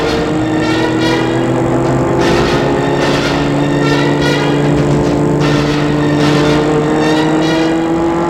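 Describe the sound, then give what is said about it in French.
A car engine runs steadily and loudly at night on a long journey, its droning hum rising and falling as the vehicle drives along, with no voices present. “met la voiture en route avant de lui répondre, pour éviter qu'elle ne quitte la voiture.”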